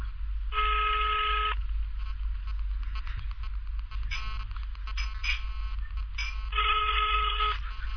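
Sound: phone call ringing tone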